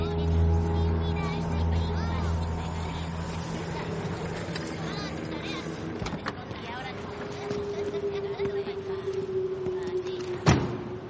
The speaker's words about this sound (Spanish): conduce su Aston Martin.